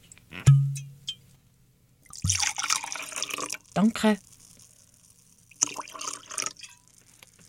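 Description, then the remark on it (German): A special, cloudy golden wine pours into a glass in a couple of short bursts, a trickling splash with a brief clink at the start, and a person says a quick word between pours. “Ich habe da eben einen Wein mitgebracht. Vielleicht willst du auch ein Glas?”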